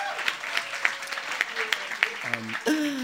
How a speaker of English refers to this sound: Wow, that was like a hostile round of applause. I never thought I would hear a round of applause laced with so much malice again.